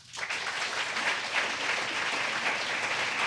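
audience applause

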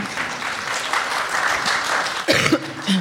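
smattering of applause

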